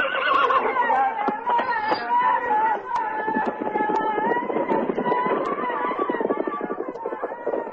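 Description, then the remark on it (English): Horses whinny and neigh repeatedly while hooves clop in an uneven, busy rhythm as warriors bring horses, with faint voices murmuring underneath throughout. “Two Apache warriors brought horses for Billy and Jenny.”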